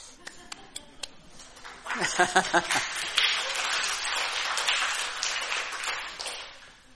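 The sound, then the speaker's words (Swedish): A few sharp, scattered claps give way to a dense wash of audience applause that swells and carries on steadily, with crowd voices mixed into the clapping. “Och då klappar de i Afrika.”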